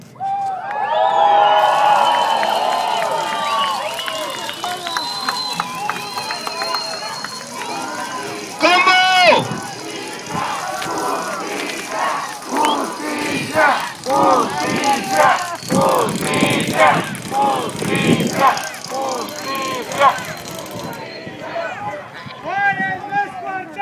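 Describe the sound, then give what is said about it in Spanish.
A large crowd in Ciudad Juárez, gathered to repudiate violence and war, shouts and cheers in a sustained, roaring wave, with many overlapping voices rising and falling for the whole stretch, loudest in bursts around the middle. “Este es el grito de la vida y se tiene que oír en todo el mundo.”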